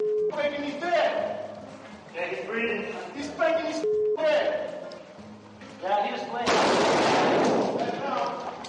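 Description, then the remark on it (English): A loud, harsh burst of gunfire erupts for about a second amid men's shouting voices, which continue before and after the shots: a U.S. Marine shooting a wounded insurgent in Iraq, caught on NBC video. “A U.S. Marine shoots a wounded insurgent in Iraq. NBC's Kevin Seitz catches it on video.”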